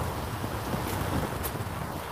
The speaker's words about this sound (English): Aspen rustling here.